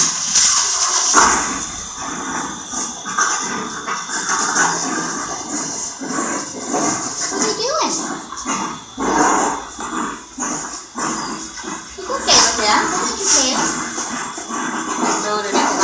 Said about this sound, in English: There's two dogs playing. That's that noise.